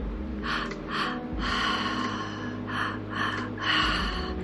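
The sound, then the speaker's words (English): Strong, rhythmic breathing all through the mouth: quick paired inhales followed by a single exhale, repeating steadily over a low continuous drone, with no talking. “And breathing into the color red, we're going to start with the breath through the mouth, all through the mouth, two breaths in, one breath out.”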